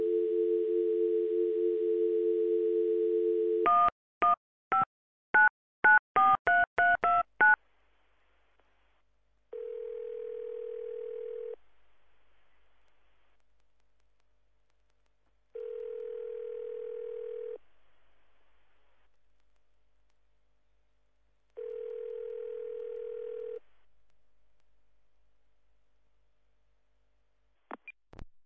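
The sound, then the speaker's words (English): A steady phone dial tone, then a quick run of about ten touch-tone beeps, followed by three evenly spaced ringback tones with long silent gaps between them, as a call is placed on the phone lines to an Online Profits University student. No one speaks. “So let's go to the phone lines one more time.”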